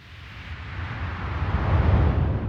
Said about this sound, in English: Like a lot of things on the record, it's both organic and synthetic in that it sounds like the ocean, but it's engineered.